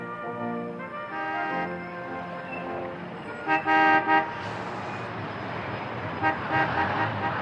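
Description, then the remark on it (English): Busy rush-hour street traffic at sunset with several car horns honking, long sustained blasts overlapping and a few sharper toots, over a steady roar of vehicles. “An orange sun was setting over rush hour traffic as I struggled home, still a bit dizzy.”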